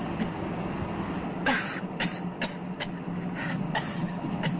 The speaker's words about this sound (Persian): اتوبوس توقف می کند و درهای آن باز می شود.